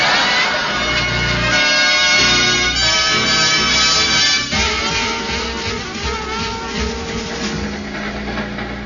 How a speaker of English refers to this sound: Well, I can afford to say it now, Sapphire. The train is moving.